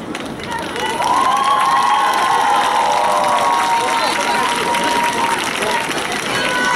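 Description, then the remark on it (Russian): A large audience claps and cheers for several seconds, a dense, steady wash of applause with whoops and shouting voices rising over it, staying loud throughout after a slightly quieter start. “Низкий вам поклон за ваши аплодисменты.”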